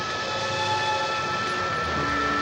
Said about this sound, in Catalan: Es desplacen amb una mena de moto voladora.